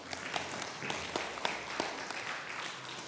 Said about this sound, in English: And you must have a clap as well.